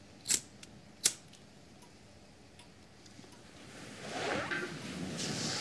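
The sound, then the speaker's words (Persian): A cigarette lighter is flicked twice for a woman who has taken a cigarette from a pack, two crisp metallic clicks about a second apart, followed a few seconds later by a soft, rising hiss, as of a flame catching. “بهمن براش فندک میزنه.”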